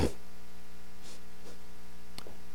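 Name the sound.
audience turning Bible pages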